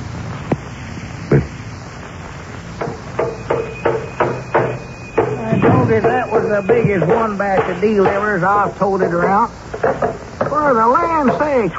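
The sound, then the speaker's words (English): Sharp hammer blows strike nails in an uneven rhythm, a few scattered knocks and then a quicker run of taps, as Lum builds a private office in the Jot 'em Down store and library, before people begin talking and the hammering fades under their voices. “As we look in on the little community today, we find Lum in the Jot 'em Down store and library, busy with a hammer and nails.”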